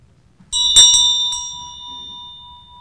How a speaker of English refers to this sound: So we're going to start with a little saying, because Buddhists ring bells a lot, with chanting from the heart from Thich Nhat Hanh from Plum Grove. So we're going to start with that.